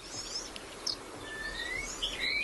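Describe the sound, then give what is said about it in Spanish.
A wallcreeper, a grey and red bird that lives on vertical rock faces, gives thin, high, upslurred whistles from a crag, a few drawn-out notes rising in pitch, fairly faint over a steady outdoor hiss, with no voices. “Y también por esa misma peña, por ese mismo risco, está silbando un trepariscos, un pájaro gris y rojo que vive en la vertical.”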